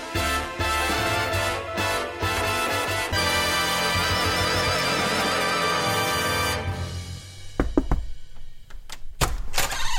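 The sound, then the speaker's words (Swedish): After a stretch of steady music, a few soft, scattered knocks sound on a door, a fake knock made from inside, irregularly spaced and fairly quiet, with no talking. “Och så gjorde du en fejkknackning inifrån.”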